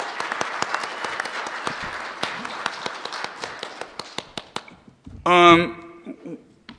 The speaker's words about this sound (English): So let's give him one more round of applause.